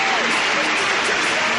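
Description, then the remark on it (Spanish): A huge football crowd in the Camp Nou stadium stands and claps steadily in a dense, continuous wash of applause, with scattered cheers and voices blended into the roar, holding at an even loudness throughout. “Todo el estadio de pie aplaudiendo.”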